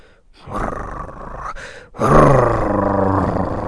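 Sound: dog growling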